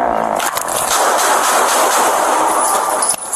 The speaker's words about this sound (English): 312, shots fired. Suspect down.